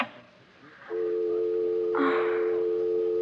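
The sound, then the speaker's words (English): A brief clatter as a phone receiver is set down, followed by a steady, continuous dial tone humming loudly and close for the rest of the moment, with no one speaking. “And if you really want my advice, you'll phone Corey the second I hang up, which is right now.”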